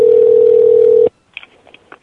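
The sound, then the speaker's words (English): A steady, loud dial tone on a telephone calling a family's house phone holds for about a second, then cuts off, followed by a quick series of faint touch-tone dialing beeps. “This is their house phone, as they explained.”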